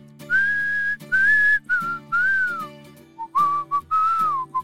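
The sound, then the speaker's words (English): A person whistles a cheerful song melody, sustained phrases rising and falling with short breaks between them, over a steady low hum from backing music. “I love whistling this song.”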